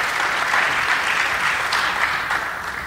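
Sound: audience round of applause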